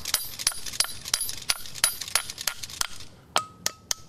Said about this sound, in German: Und dann muss man noch ein paar Mal mit dem Hammer draufschlagen. Und der ist eigentlich schon fest im Fels verankert, oder?